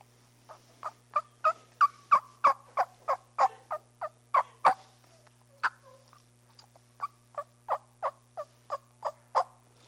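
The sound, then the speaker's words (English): Soft turkey tree yelps made by a person calling to a gobbler: a steady run of about a dozen quick, nasal notes, a short pause, then a second shorter series, alone against a faint low hum. “And as you get a little bit closer to him, what I'll do is I'll give him a little soft tree yelp, something like this. Somebody yelp for me.”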